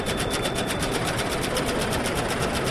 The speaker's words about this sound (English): The iconic flipping board at 30th Street Station with a clickety-clack sound that's greeted countless of passengers over the years will soon be silenced.